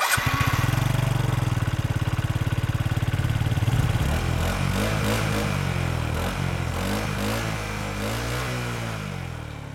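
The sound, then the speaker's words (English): A small moped carrying three riders in a chase through a city sputters into life and settles into a steady putter, then revs up and down in rising, wavering bursts. It sounds loud, with no one talking. “You three are on a moped.”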